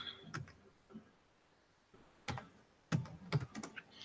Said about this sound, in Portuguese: Às vezes eu vou ouvir os episódios e fica esse som de teclado irritante, vocês me perdoem, tá? Esse som é irritante.